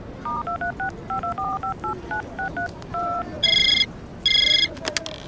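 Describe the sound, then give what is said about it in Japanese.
A quick run of about a dozen two-tone phone keypad beeps dialing a company office, Design Office J, followed by two bursts of a bright electronic ringing tone on the other end, heard clearly with no talking. “あ、そうだ、会社に電話しなきゃ。”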